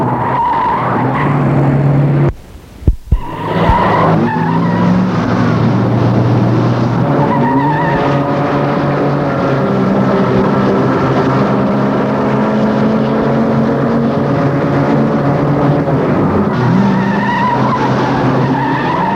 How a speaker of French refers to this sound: Il accélère pour rejoindre la voiture, puis la dépasser. Autre voiture le dépasse.